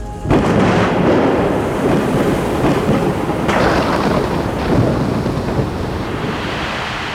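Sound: thunder and torrential rain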